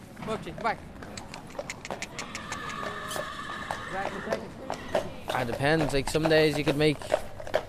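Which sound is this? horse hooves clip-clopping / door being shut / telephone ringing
horse hooves clip-clopping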